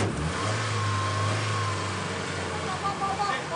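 A car engine revs up, a loud low rumbling roar that holds steady for a moment and then settles into a rougher, lower hum.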